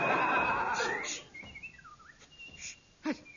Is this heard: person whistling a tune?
yes